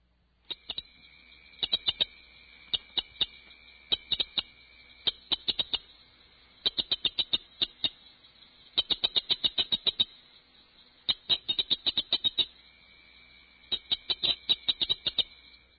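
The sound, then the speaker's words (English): A cricket frog (Acris grillus dorsalis), the smallest species in the chorus, calling with rapid series of sharp, high-pitched clicks, like pebbles tapped together, coming in bursts that speed up and lengthen, over a faint steady high insect-like hum. No one speaks. “The cricket frog, Acris grillus dorsalis, is the smallest species in the chorus.”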